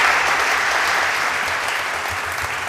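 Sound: loud audience applause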